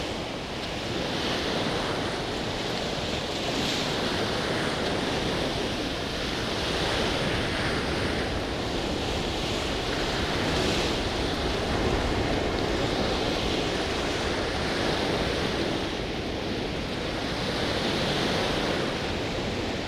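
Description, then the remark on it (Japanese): Strong, steady sea wind roars across the Cliffs of Moher, an 8-kilometre line of cliffs about 200 metres high above the Atlantic, buffeting the microphone, with the broad wash of surf below blending into a continuous loud rush that swells and eases slightly throughout. “今日は特に海からの風が強く、足元も滑りやすいので、落ちないよう気をつけて進みましょう。”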